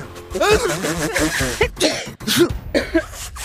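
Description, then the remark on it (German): A voice mimics a sneeze followed by a cough, done as spoken imitations rather than real ones, fairly loud, with a few short bursts over about three seconds. “Hatschi und Hust.”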